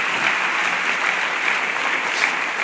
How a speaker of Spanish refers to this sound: Amén, dale un fuerte aplauso al Señor, si lo crees.